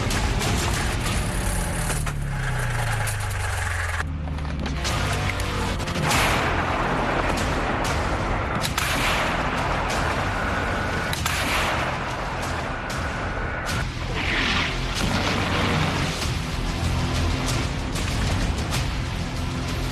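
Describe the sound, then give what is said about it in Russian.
Malka long-range artillery guns fire a series of loud booms, each blast followed by a rumbling echo, with a descending mechanical whine near the start and no one talking. “Самые мощные дальнобойные пушки «Малк».”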